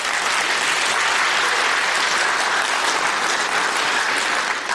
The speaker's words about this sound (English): Give the Lord a hand clap because that's the truth.